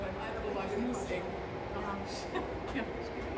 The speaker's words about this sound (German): Wir hören einen Zug.